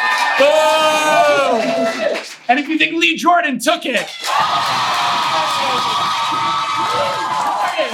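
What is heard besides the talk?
audience applause and cheering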